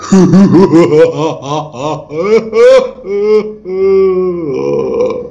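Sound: person crying and wailing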